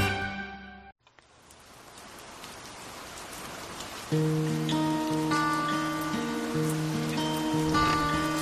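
Steady rain hisses and patters close by, swelling after a brief gap at the start; about halfway through, a soft sustained melody begins playing over the continuous downpour.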